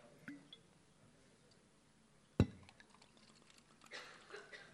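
A speaker pauses during a talk to pour water into a glass and sip it, with a sharp clink of the glass partway through and a soft splashing trickle toward the end, all fairly quiet.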